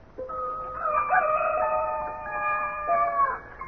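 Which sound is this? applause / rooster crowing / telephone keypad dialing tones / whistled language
rooster crowing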